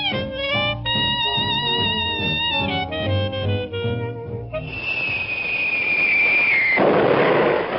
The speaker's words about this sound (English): Boy, that sounds like one of them incendiarian bums.